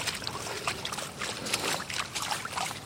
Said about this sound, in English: Oh, the cleaning boots. Yeah, got a nice bit of water.